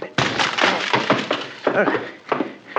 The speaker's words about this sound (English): Excuse me while I try to ruin a library door.